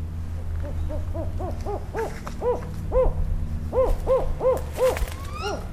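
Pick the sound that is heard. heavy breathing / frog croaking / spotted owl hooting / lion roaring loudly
spotted owl hooting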